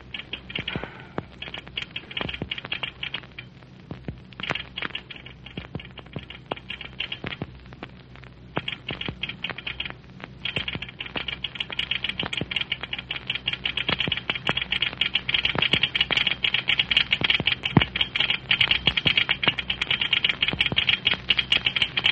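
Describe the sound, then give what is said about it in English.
A telegraph key clicks away in rapid, irregular bursts of sharp taps over a faint low hum, growing a little louder toward the end, with no voices; a message is being sent to try to reach a train before it pulls out of Cloverdale Junction. “If I can catch them on the wire before they pull out of Cloverdale Junction, they might stop here and pick you up.”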